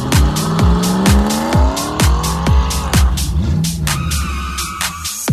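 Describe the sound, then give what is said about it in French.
A fast car accelerates hard, its engine whine climbing steadily in pitch while tires squeal. Loud and continuous, with a rapid rhythmic pulsing throughout and no voices. “J'aime les voitures qui vont vite.”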